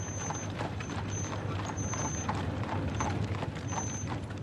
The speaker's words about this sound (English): The familiar sound of the horses clattering on the cobblestones of the narrow alleys